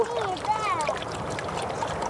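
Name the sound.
running stream water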